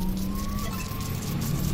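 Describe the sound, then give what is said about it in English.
An alarm is going off, a sustained high electronic tone that wavers slightly in pitch, heard over a steady, loud rumbling noise for the whole short stretch. “Oh, someone's alarm's going off.”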